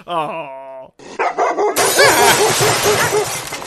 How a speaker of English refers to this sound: The mad dog is ready to explode.